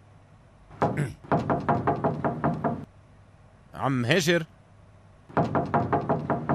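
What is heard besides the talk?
knocking on a door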